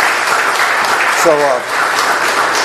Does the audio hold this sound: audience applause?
yes